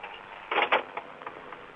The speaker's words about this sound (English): Well, this is what it sounds like when you're having a conversation in a phone booth along a busy highway in Prairie Grove with the door open.